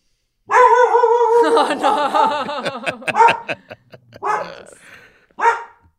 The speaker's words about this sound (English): Is your dog Sorry, objecting we have to my analysis? A dog barking. That's okay.